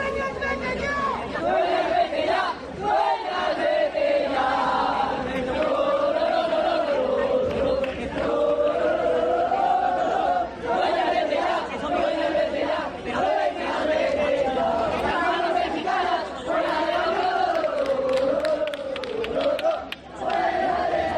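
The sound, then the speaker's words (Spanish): A group of Salamanca football fans, waiting for the players at the locker room exit after a 0-3 defeat to Llanera, shouts and chants angrily in protest against Dueñas and Lobato, many voices overlapping in a loud, continuous roar with rising and falling yells throughout. “Gritos contra Dueñas y Lobato.”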